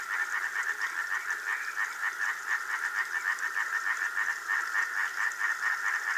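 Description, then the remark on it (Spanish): A dense chorus of European tree frogs calling together, their rapid pulsing croaks blending into a steady, throbbing rhythm that carries on without pause at moderate volume. “Los coros pulsantes de las ranitas de San Antón se apagan enseguida.”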